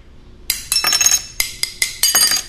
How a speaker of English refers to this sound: She stands at an improvised workstation in her studio in Burlington's South End, quickly slicing the clear panes, then tapping them lightly to form the shapes she'll later paint to form mosaics.